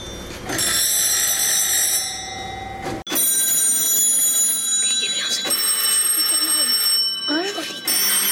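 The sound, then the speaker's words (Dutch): An old mechanical telephone bell from 1880 rings loudly and continuously, breaking off briefly near the midpoint before clanging on again. Faint voices can be heard underneath. “We hebben hier ook een telefoon, die is van 1880.”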